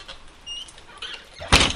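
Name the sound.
door being shut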